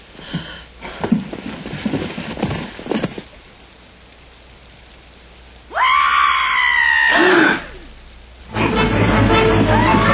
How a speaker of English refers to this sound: Why would he scream? He must have a victim in there.